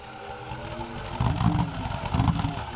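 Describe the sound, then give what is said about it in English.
A pulse engine, an engine with no moving parts, roars steadily, its low rumble throbbing in rapid pulses and growing louder partway through, with a harsh hiss riding on top and no voices. “A pulse engine is an engine with no moving parts, built entirely from the physical principle of thermodynamics, if I understand it correctly.”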